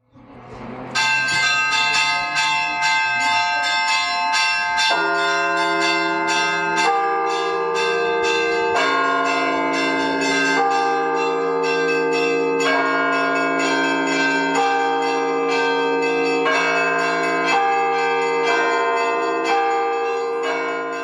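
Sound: church bells ringing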